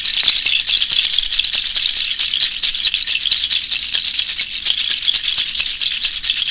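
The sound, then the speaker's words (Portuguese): A dense, steady chorus of marsh pond creatures, a high-pitched rattling trill of rapid clicks that runs loudly and continuously without pause, with no voices. “Permita que o barulho das charcas quebre os padrões instalados.”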